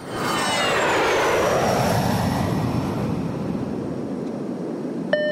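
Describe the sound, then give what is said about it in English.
A steady, loud airplane cabin drone in flight: broad rushing engine noise with high whining tones that slowly glide downward, then a single bright chime at the very end. “I was on a plane last week and I managed to record my pilot.”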